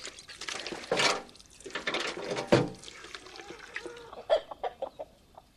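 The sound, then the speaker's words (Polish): Several chickens cluck as they are being fed, in a busy, uneven jumble, with a couple of louder squawks early on and a quick run of short, sharp clucks near the end. No one speaks. “A kogut to zawiorny. I nie przychodzi tutaj.”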